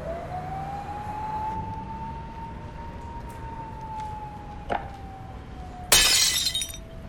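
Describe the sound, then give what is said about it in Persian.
A drinking glass hits the floor and shatters in one bright crash near the end, preceded by a small clink, with a steady high-pitched tone humming in the background throughout. “نتونستی بگیری؟ من عاشق اون لیوان بودم.”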